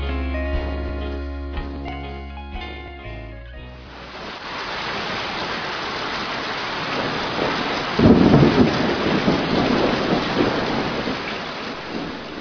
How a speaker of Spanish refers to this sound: Al poco tiempo vinieron lluvias torrenciales y la escuela se llenó de goteras.